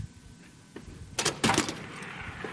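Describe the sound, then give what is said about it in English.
A door is opened so someone can look outside, with a couple of sharp clunks and a brief rattle in the middle, followed by a soft rush of outside ambience. No one speaks. “I got to look out the door here.”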